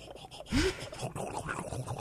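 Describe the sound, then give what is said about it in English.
A voice imitates the pink-foam brush at a car wash starting up when money is put in: a sudden loud, breathy blast with a rising whoop, then a softer, rough sputtering hiss that carries on for over a second. “those weird noises that you take for granted, like the foaming brush at the car wash.”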